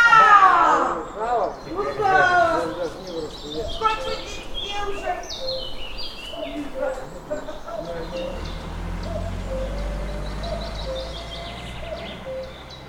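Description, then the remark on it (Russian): Several birds sing and call at once, a busy mix of chirps, whistles and trilling phrases overlapping throughout, with a low rumble of background noise rising toward the end. “Но, несмотря на все это, мы любим голоса птиц, записываем их и выкладываем.”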